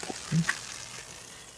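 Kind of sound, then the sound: food or drink, food sizzling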